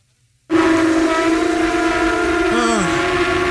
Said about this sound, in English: What is that? Conch blowing. It's conch blowing. How many? Sounds like a lot.